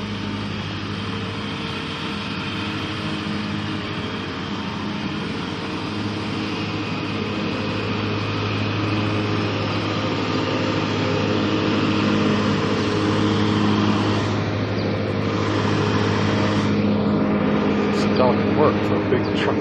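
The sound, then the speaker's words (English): A lawn mower engine drones steadily for the whole stretch, a loud, continuous motor hum with slight shifts in pitch as it mows between a small tree and the concrete bumpers around the edge of a parking lot. “Mowing between one of the small trees and the little concrete bumpers they put around the edge of the parking lot.”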